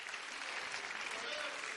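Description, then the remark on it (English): An audience claps together in a dense, continuous wash of applause, many hands blending into one steady, bright patter with no single claps standing out. The level stays even and moderate throughout. “Oh, somebody clap your hands and thank him for his blood.”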